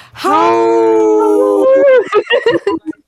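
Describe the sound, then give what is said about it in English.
People howl like wolves for Howling for Wolves, a loud drawn-out howl held for over a second before breaking into short, choppy vocal yips and murmurs. “That was our first time howling.”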